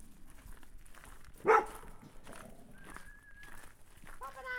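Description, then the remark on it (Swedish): About 15 dogs barking at a kennel in the woods on Söderslätt in Skåne, Sweden: one sharp, loud bark stands out, followed by scattered higher-pitched yelps and whines over a steady low background murmur. “En bit in i skogen på den skånska söderslätten möts man av skallet från omkring 15 hundar.”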